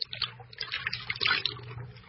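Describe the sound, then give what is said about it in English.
Liquid pours in a steady, splashy trickle for a couple of seconds, close by and moderately loud, over a faint low hum, with no voices. “By the Prince of the Air, by the little spirit, come to the virgin blood we pour for you.”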